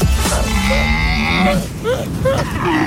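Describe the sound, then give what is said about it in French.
Loud, groaning cries of a male dromedary camel in rut: a long, low, droning bellow with harsh rasping overtones, followed by shorter gurgling calls rising and falling in pitch, with no talking. “Alors là, vous entendez des cris de chameaux dromadaires.”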